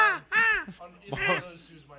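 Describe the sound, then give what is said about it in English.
A person imitates a seagull, letting out a few loud, harsh, wavering squawks in quick succession. “threw down a French fry, and here she is.”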